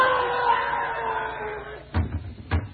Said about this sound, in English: It sounded like someone falling against the front door. Oh, it's horrible.